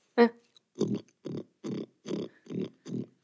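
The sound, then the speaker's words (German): A person imitates a wild boar with a series of rough, throaty grunts: one sharp opening snort, then six evenly spaced low grunts in a steady rhythm, fairly loud. “Ja, aber welches Schwein? Das ist ein Wildschwein.”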